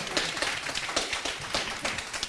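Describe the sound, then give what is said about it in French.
A crowd applauds steadily, many hands clapping at once in a dense, crackling wash with sharper individual claps standing out at an even pace, sustained throughout at a moderate level. “On peut l'applaudir.”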